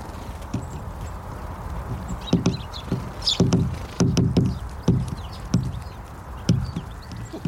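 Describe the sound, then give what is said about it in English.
A great tit pecking at a microphone: a run of loud, sharp taps and thumps in an uneven rhythm, some landing in quick pairs, over a steady background hiss. “This is what it sounds like when one decides to attack your microphone.”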